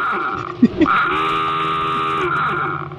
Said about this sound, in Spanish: Me encanta este sonido que es de mi despertador.